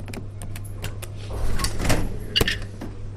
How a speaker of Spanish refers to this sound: Para mostrarnos las medidas de seguridad nos dejan pasar a una primera sala. Es el único lugar de este laboratorio desde el que podemos mirar. Cuando abren la puerta, tengo la sensación de estar en una película.